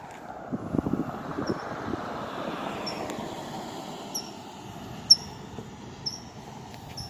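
birds chirping outdoors

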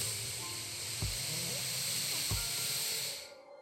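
heavy breathing

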